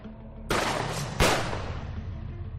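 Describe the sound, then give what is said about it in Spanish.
Two sharp gunshots crack out less than a second apart on a busy footbridge over the Bernesga river at 5:15 in the afternoon, each leaving a long echoing tail that fades into a steady low rumble of background noise. No voices are heard. “Eran las 5:15 de la tarde, una hora aparentemente tranquila, cuando de repente el sonido de varios disparos rompió esa aparente normalidad.”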